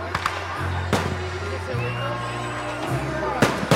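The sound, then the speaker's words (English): Fireworks crack and boom in sharp bursts over a steady low musical hum and crowd noise, with a few louder blasts near the end, at an outdoor Independence Day party in Princeton, Texas. “Fireworks and music highlighting a party in Princeton, Texas.”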